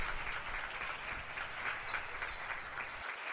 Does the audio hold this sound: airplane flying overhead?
no